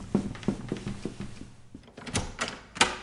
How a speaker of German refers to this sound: Okay, die Tür geht schon mal auf.